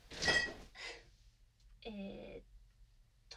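household object, refrigerator door opening

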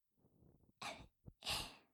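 human body sound, yawn

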